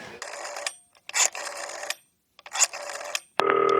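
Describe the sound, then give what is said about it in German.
A telephone rings on an outgoing call: three clear, fairly loud trilling bursts separated by short gaps, then a steady electronic tone as the line connects. No one speaks. “Okay, es klingelt.”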